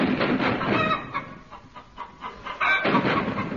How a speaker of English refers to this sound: Hear that thrilling sound. British artillery shelling German chickens.